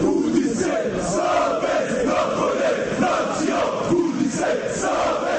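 A large crowd of football fans from various supporter groups across Bosnia and Herzegovina chants loudly in unison in protest against the leadership of the country's Football Federation, voices rising and falling in a steady rhythmic roar that fills the whole stretch without a break.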